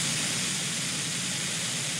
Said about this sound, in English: What about gray noise?